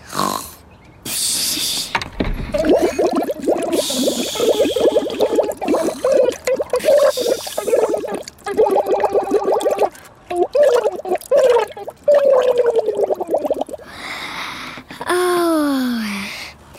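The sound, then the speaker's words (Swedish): Steady bubbling and gurgling water from a goldfish blowing bubbles, carrying a wobbly, sung melody, like a tune blown through water, ending with a few quick rising whistles. “Tack för den apiga sången, Bubbel. Det var hemligt bra bubblat.”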